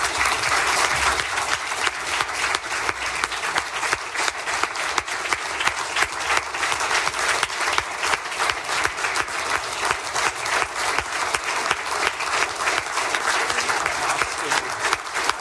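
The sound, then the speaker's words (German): Sustained, dense applause from a large crowd of delegates at the state conference of the Bavarian Association of the Blind and Visually Impaired, rising from their seats to approve a motion, many hands clapping steadily and loudly for the whole stretch without any voices on top. “Wenn Sie diesem Antrag zustimmen, dann bitte ich Sie, sich mit einem deutlichen Applaus von Ihren Plätzen zu erheben.”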